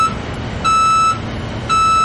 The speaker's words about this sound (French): bruit d'un camion.